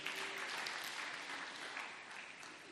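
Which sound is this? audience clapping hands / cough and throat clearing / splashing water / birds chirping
audience clapping hands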